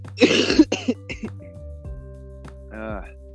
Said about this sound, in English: Yo, I've had this cough for like a good minute, and I don't know what the hell is going on. It's been a good couple weeks.